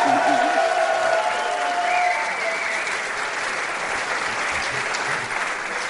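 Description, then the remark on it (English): A crowd applauds loudly and steadily for several seconds for an 11-year-old girl, dense clapping with some cheering voices mixed in at the start before settling into sustained applause. “I was going to ask you for a big round of applause for Rebecca Shapiro, but you guys beat me to it”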